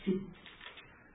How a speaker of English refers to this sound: No, it's great to hear the pages rustling. That's what I like to hear.